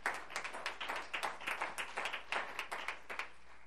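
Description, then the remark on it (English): An audience claps as they take their seats in the morning, a steady, rapid patter of many hands, the overlapping claps forming a brisk, even rhythm at moderate loudness with no voices over it. “Would you clap as you are seated this morning?”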